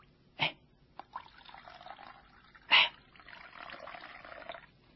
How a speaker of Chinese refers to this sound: 他站起来了，脱去了外衣，又倒水在盆里。